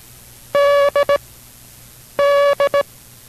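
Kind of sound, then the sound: signal or alarm, international Morse Code tones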